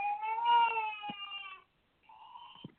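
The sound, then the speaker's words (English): A baby cries in two high, wavering wails: a long drawn-out one, then after a brief pause a shorter, quieter one, with no talking over them. The baby is in the back during a caller's phone call to a live call-in show. “Sorry, the baby is in the back.”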